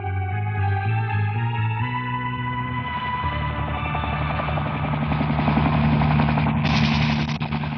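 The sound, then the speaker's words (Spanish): A helicopter's rotor chop builds out of a short musical sting, growing louder and more pulsing as it approaches a suspect boat at sea, with a swelling roar and no voices. “Desde el helicóptero, Calimán y el inspector Tamato observan con binoculares la marcha del barco sospechoso.”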